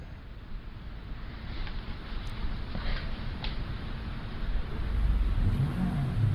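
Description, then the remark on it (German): A video game car engine rumbles steadily as the vehicle drives, the low growl swelling louder and revving up toward the end, with no voices over it. “Ja, man kann übrigens auch mit dem Auto durch das Ding fahren hier.”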